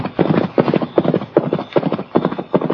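Hooves clatter in a fast, uneven rhythm of repeated clip-clop bursts, like horses scrambling and climbing over ground, loud and continuous with no speech.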